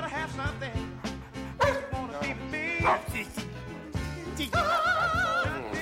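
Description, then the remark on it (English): Several dogs, brought in by people parading in with them, bark and yip in quick, overlapping bursts against a busy, continuous background, loud throughout. “Dooley and Jerry Lee watch people parade in with their dogs.”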